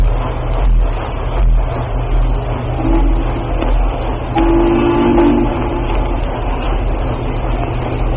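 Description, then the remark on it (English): A train whistle sounds in two steady, low-pitched blasts, a short one followed by a longer one, over a constant rumbling background of rolling rail noise. No one speaks. “That's a new whistle. We're not acquainted with that one.”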